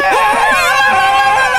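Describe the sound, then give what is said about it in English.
A chorus of high-pitched war cries from a dozen horse-mounted riders, many voices wavering and ululating together in a loud, continuous wail that holds steady for the whole moment. “In response, A dozen horse-mounted Hispanic extras playing Arabian freedom fighters emit high-pitched, highly problematic war cries.”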